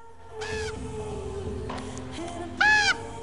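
A crow caws twice as it lands on a headstone, two short harsh calls spaced a couple of seconds apart, the second louder, over a low steady background rumble with no one talking.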